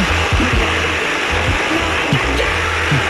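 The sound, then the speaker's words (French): A chainsaw engine runs loudly and steadily, its buzzing motor revving up and down in short surges throughout, with no talking over it. “Vous savez à quoi ça me fait penser, la tronçonneuse?”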